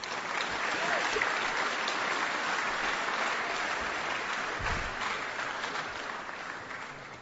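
Sustained applause from a large audience at Athey Creek welcoming a speaker, a dense steady wash of many hands clapping at full volume that tapers slightly toward the end, with no speech over it.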